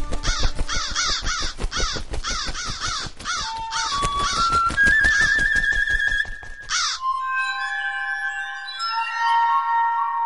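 A flock of frightened rooks rising from a nearby oak forest caws loudly and frantically, harsh overlapping calls in rapid bursts for about seven seconds, then fading into thinner, sustained tonal notes. No voices are heard.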